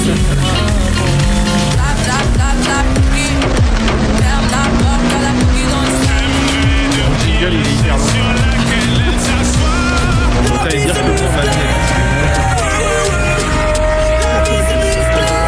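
A car engine runs loudly and steadily, its pitch rising and shifting as the vehicle moves, with a dense clatter of rumbling road noise throughout.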